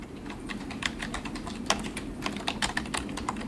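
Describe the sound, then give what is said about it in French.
Rapid, irregular clicking of computer keys being typed on in an office in Guyancourt, Yvelines, with five workstations where operators are answering chats: a steady patter of light taps with a few sharper strokes over a low background hum. Nobody speaks. “On est dans une pièce très studieuse, très calme, 5 postes de travail, 3 opérateurs, 2 opératrices, 1 opérateur en ce moment, en train de répondre à des chats.”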